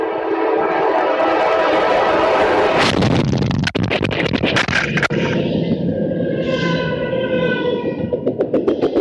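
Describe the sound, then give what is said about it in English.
A loud train roars past and strikes a man near the tracks, with steady rumbling, sharp metallic clanks and thuds cutting through around the middle, then a long, tonal horn blast rises over the continuing rattle. No one speaks. “But that's what it sounds like to get hit by a train.”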